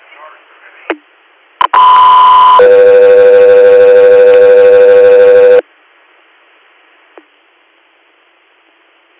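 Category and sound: signal or alarm, radio dispatch alert tones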